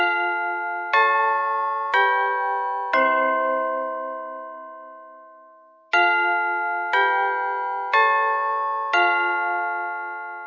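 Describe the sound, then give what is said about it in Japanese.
A school chime rings out at the end of a class, a slow melody of eight clear bell tones in two groups of four, each note lingering and decaying, with a pause in the middle and no voices. “おや、鐘が鳴ってしまいましたね。”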